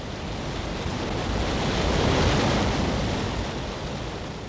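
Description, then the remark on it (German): A waterfall roars, crashing against black rocks deep below in a gorge, in a dense, unbroken wash of rushing water, swelling slightly in the middle and then easing back, with no voices present. “flackernde Vorhang der stetig aufstiebenden Gischt, der endlose Wirbel und das Tosen im Abgrund waren schwindelerregend.”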